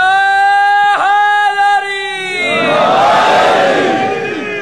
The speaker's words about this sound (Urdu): ہاں, ایک سردی شکن نعرہ لگائے نا تاکہ سردی بھاگ جائے یہاں سے.